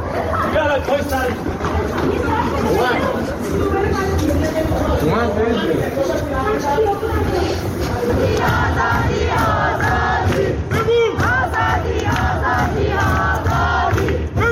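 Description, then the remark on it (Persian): A large crowd at a nighttime protest gathering in Ekbatan town, Tehran, Iran, shouts and chants "Death to Khamenei" together in loud, continuous waves of voices, with overlapping cries rising above a dense roar of many people. “شهرک اکباتان تهران، حمله نیروهای امنیتی موسوم به لباس شخصی با گلوله‌های ساچمه‌ای و بمب صوتی به مردمی که تجمع اعتراضی شبانه برگزار کردند.”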